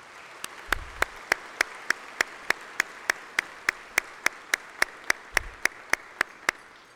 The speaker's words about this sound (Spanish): Muchas gracias y les pido un aplauso para todos los premiados aquí presentes.